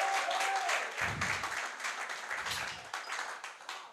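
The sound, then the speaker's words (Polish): A crowd applauds steadily as four young people are invited up to answer questions, a dense wash of many hands clapping at once with no clear individual beats, holding at a fairly loud level throughout, with a couple of low thuds underneath. “Wielkie brawa dla nich.”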